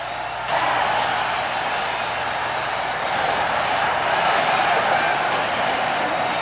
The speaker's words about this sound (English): There's a drive way back. It might be. It could be. It is a home run. Listen to the crowd.